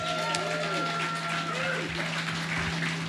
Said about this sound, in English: I think we can all clap again for that. That was fantastic.